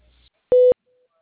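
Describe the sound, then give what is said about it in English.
A single steady electronic phone tone, about a fifth of a second long, heard as a caller is added to an ongoing insurance phone call; a flat loud beep with a few faint overtones, rising out of near silence and stopping abruptly. “I can add her to the call.”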